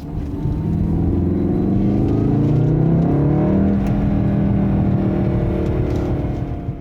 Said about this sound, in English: has a turbo four-cylinder engine that tries to make up for its acoustic shortcomings by piping fake engine noise into the cabin through a little German gizmo called a sound ductor.